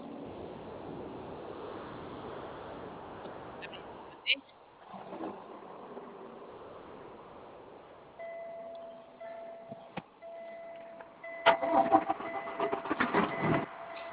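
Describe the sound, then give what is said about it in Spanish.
A truck engine rumbles at idle while building air pressure before the driver sets off, bringing a steady tonal whine, clicks and sharp hissing bursts toward the end, with muffled voices underneath. “Ya nomás carga aire para irme.”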